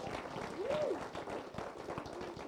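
audience clapping

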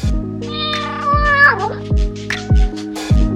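kitten meowing

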